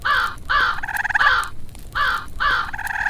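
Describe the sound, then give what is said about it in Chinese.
A large black crow perched on a wizard's arm caws loudly in a series of harsh calls: two quick caws, a longer raspy one, then two more after a pause, with no one speaking. “佢一只手攞住一支拐杖， 另外一只手个手臂上面就企咗一只黑色嘅大乌鸦。”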